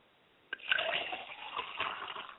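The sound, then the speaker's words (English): Liquid being poured as a libation to Obatala and to spirits, in a steady splashing stream, starting abruptly after a brief quiet moment and continuing with a bright, bubbling hiss. No voices are heard. “Now, because we are pulling together under collective work, we're going to go ahead and pour libations, and we pour libations to Obatala, my father's spirit, and Isaiah Shea.”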